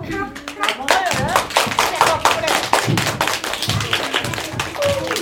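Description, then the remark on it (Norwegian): A group of children claps their hands in steady, dense applause at the end of a story told to them, fairly loud, with a few young voices calling out faintly underneath. “Da tror jeg, da må dere klappe.”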